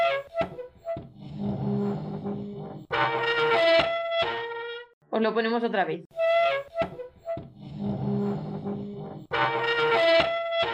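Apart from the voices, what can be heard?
chair being moved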